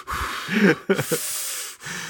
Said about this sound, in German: man hört mich immer atmen, aber ich finde, man hört mich gar nicht atmen. Und außerdem muss ich atmen, sonst sterbe ich.